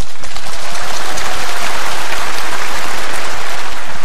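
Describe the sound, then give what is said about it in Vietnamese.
Loud, sustained applause from a crowd fills the whole stretch, a dense patter of many hands clapping steadily with no voices over it. “Giỏi lắm, cho một tràng pháo tay.”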